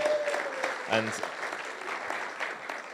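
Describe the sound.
A crowd claps steadily in a round of applause, a dense, even patter of many hands filling the whole stretch, with a brief voice or cheer rising through it near the start.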